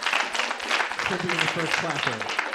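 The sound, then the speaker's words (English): A crowd claps steadily in a dense, even patter of many hands, applauding mention of a European Amputee Football Federation final in Turkey between Turkey and England, while voices talk over the applause partway through. “Can you clap for that?”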